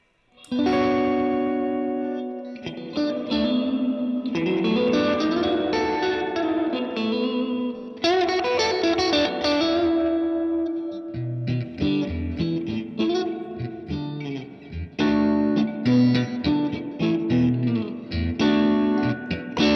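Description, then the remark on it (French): An electric guitar rings out through a lush spring reverb pedal, chords and notes blooming into a washy, lingering tail. It plays loud for the whole stretch, with no voices. “Terrible, c'est que ça reste une réverb à ressort, techniquement parlant, mais j'ai déjà l'impression qu'on rentre dans les modèles d'habitude qu'on appelle hall ou room sur certains multivers ou certains amplis.”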